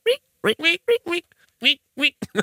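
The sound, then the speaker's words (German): A voice imitates the squeaking of latex rubbing together as a man walks, with a quick series of about eight short, nasal squeaks in an uneven walking rhythm, fairly loud, with a brief pause partway through. “Weißt du, wie ich es mir vorstelle, dass es die ganze Zeit auch so Quietschgeräusche macht, wenn er geht, weil das Latex so aneinander reibt?”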